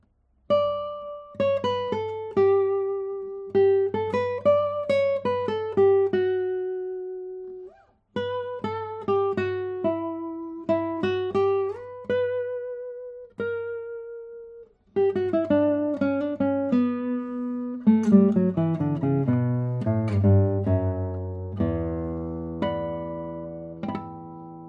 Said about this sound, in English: You don't have the feeling that one note is sounding louder than the other, or has more overtones than the other tones. So it's a very well balanced guitar, but let me play more on it.